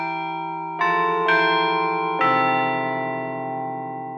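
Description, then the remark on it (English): A Chime Master digital carillon, playing digital recordings of actual bells, rings out a slow melody: four struck notes spaced about a second apart, each tone sustaining and overlapping the next in a rich, shimmering wash. Loud, with no voices. “The Chime Master Carillon features state-of-the-art digital recordings of actual bells.”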